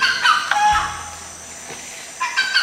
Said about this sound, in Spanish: Y se convirtió en el pájaro que lleva ese nombre porque así canta.